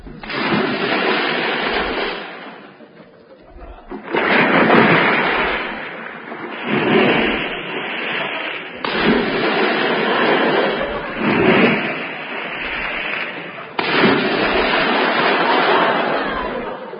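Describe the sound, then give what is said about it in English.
Six heavy splashes of bodies falling into water follow one another, the first Moriarty, the other five Mr. Seacombe, each a loud, broad crash of churning water lasting a couple of seconds before the next begins. No one speaks. “The first splash was Moriarty. The other five were Mr. Seacombe.”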